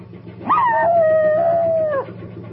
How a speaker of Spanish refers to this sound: Otro perrillo ladra desde el techo de una barcaza que navega por un río entre campos.